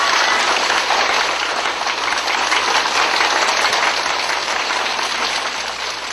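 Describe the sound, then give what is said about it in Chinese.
A large crowd at a conference in San Francisco claps warmly and steadily to welcome respected guests, a dense, even wash of applause that stays loud for the whole stretch without pause or voices. “现在让我们以热烈的掌声欢迎我们尊敬的来宾。”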